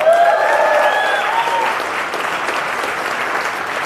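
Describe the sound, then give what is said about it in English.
An audience applauds as the show Fauci Unmasked with Michael Knowles is announced, with dense, steady clapping that holds at a loud, even level throughout, and a brief high cheer or whoop rises over it in the first second or so. “You didn't let me finish Fauci Unmasked with Michael Knowles, so there's no need to clap. Absolutely no need to clap.”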